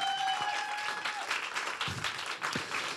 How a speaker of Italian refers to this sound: Siamo a quasi 10.000 euro donati. Applauso.